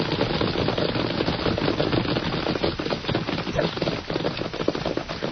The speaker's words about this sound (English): Horses. Sounds like 100 of them coming right this way.